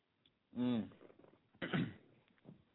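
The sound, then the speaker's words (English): Two short coughs about a second apart from a nagging cough, the first throaty and voiced, the second a harsher, breathier burst, followed by quiet background noise. “I'm going to have this nagging cough.”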